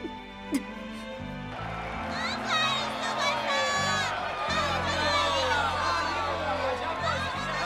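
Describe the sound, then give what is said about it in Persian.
A large crowd of spectators in a stadium cheers and shouts continuously as the players of both teams leave the field after a match, a dense roar of many voices with whoops rising over it, loud and sustained across the whole stretch alongside a steady low rumble. “بازیکنان دو تیم در میان تشویق‌های مکرر و کرکننده تماشاگرها از میدان مسابقه خارج میشن.”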